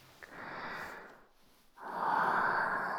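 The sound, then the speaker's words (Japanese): Two soft, airy breaths blown out toward the listener's mouth in sequence, a gentle whoosh followed by a brief pause and then a longer, fuller exhale. Breathy and hushed, with no voice. “少し息吹きかけただけで、あなたの口に私の吐息が届いちゃう。”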